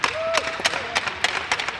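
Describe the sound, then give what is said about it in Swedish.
Scattered applause from a small group, the Göta players applauding the others: sharp, irregular claps over a busy background, with a faint sustained tone drifting underneath early on. “Vi applåderar er!”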